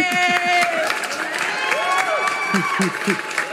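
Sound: crowd cheering and applauding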